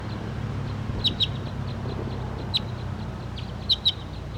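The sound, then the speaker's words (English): A wild bird gives short, sharp high-pitched chirps, mostly in quick pairs, spaced a second or more apart over a steady low rumble of background noise. “And the wild bird and 5-7 are calling inside right here, but this is .301 pointing at.”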